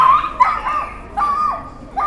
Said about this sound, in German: Es ist unglaublich, wie so kleine Hunde so einen Krach machen können.